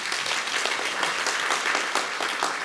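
A crowd claps steadily, a dense wash of many hands applauding at once, sustained and fairly loud throughout with no voices standing out.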